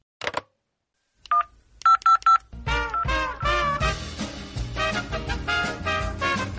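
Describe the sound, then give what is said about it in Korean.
A brief tone, then three quick telephone keypad beeps in a row, followed by a louder burst of upbeat music that carries through to the end. “알았어요. 당장 전화할게요.”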